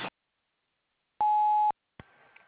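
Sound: voicemail recording beep tone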